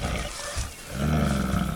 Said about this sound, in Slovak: Medveď sa nám priblížil, ako som už povedal.